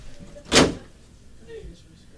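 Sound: door opening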